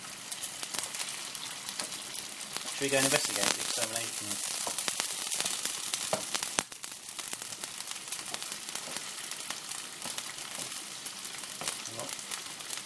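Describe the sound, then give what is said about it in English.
Steady, crackling sizzle of meatballs frying in a pan, continuous throughout, with a brief spoken question rising over it near the start. “I'm going to turn the meatballs down a little bit.”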